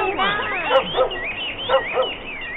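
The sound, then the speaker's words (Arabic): A hungry dog being given food barks in two quick pairs, four short yelps in all, clear over a faint background hum, with a whiny, whimpering sound just before. “كل أيها الكلب.”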